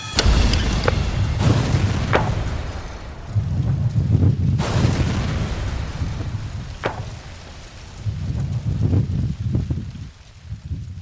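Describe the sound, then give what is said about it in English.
A reconstructed car bomb, recreated by ATF bomb experts, explodes with a powerful boom and a deep, sustained rumble, punctuated by several sharp cracks over several seconds, as debris and roaring wind-like noise linger afterward. No one speaks. “This whole piece is from this last blast.”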